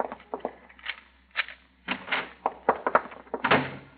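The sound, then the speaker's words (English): A series of clattering knocks and scrapes, like a door latch being worked and the door swung open, with uneven bursts of rattling over a few seconds and no talking. “Get the door open fast.”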